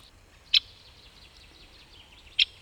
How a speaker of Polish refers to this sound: W tej chwili próbujemy dodatkowo uruchomić głos ostrzegawczy dzięcioła dużego. On na ten głos powinien, jeżeli to jest duży, powinien silnie zareagować, powinien podlecieć do nas.